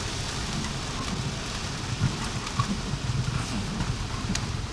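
Steady rain pours down in a dense, even hiss, with soft low patter and faint rumbling underneath, on the fourth day in a row of rain falling all day and night. No one speaks; the downpour continues unbroken throughout.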